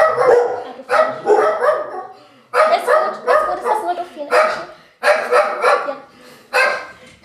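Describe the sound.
Several dogs bark in repeated loud bursts, the barking coming in clusters with short pauses between, while a person speaks briefly over the noise.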